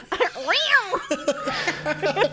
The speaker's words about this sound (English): So like, also we forgot to mention at the beginning of this scene when Queenie is walking under the bridge, they play the most stock ass Tom and Jerry ass cat sound.